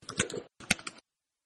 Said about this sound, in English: I'm hearing typing.